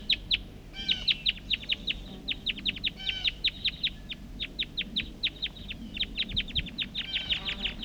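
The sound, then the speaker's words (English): Wild birds up in the trees call in a steady stream of sharp, high chirps, many repeated notes overlapping in quick bursts for several seconds, with a faint low rumble underneath and no talking. “Recording, these are calls of the wild birds.”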